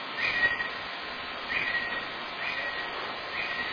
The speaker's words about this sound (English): I hear birds.